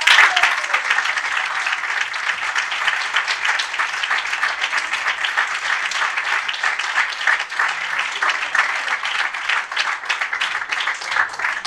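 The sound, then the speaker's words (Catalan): A crowd applauds steadily for about twelve seconds, a dense, even wash of many hands clapping at once, loud throughout with no talking over it, applause for the members and people of Retiro. “Així que, de veritat, us mereixeu tots, tots un fort aplaudiment com a retiristes i gent de Retiro.”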